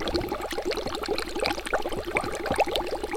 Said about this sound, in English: Interestingly enough, we learned the building also has a very distinct acoustic character. You hear this gentle bubbling sound in the background because the algae bubbles up in the panel, oxygenates, takes in carbon dioxide, and then flows on out.